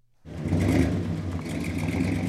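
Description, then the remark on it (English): A car engine starts up abruptly and revs at a car show, a loud, rumbling motor holding a steady throaty roar, with no one speaking. “I'm retired, so I play with my cars. I'm at the Pavilions Car Show.”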